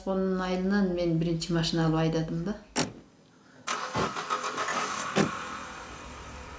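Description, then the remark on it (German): A car engine whines and revs up, then gives way to the broad rumble of the car driving out of Bishkek along wide Soviet-built streets, with a few sharp clunks along the way. “Über breite Straßen, die von den Sowjets angelegt wurden, fahren wir wenig später hinaus aus Bischkek.”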